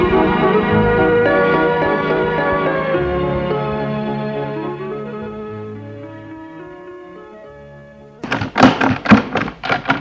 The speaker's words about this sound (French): Une nuit, l'oncle est réveillé par un bruit. C'est la porte d'entrée qui vient de s'ouvrir.